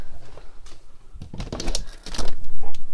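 A window is pushed open, with a cluster of sharp clicks and rattles followed by a scraping, sliding rumble as the frame moves.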